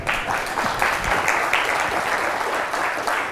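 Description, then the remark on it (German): An audience at the Chemnitzer Linux-Tage applauds steadily to welcome a speaker before her talk, many hands clapping at once in a dense, continuous wash that stays fairly loud throughout, with no one speaking over it. “Bitte warmen Applaus für die Vortragende.”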